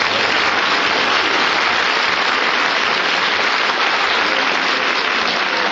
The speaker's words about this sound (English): You're not supposed to applaud, you're supposed to boo.